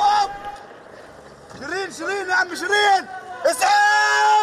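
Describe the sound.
Gunfire followed by several voices of an Al Jazeera news crew shouting urgently and loudly over a noisy outdoor background, with sharp, abrupt bursts near the start and toward the end, as journalist Shireen Abu Akleh was shot during clashes between Israeli soldiers and Palestinians in the West Bank.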